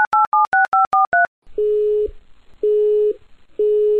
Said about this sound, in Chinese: 孩子，今天这个电话已经六次占线，七次不在服务区，九次没人接，你还打呀？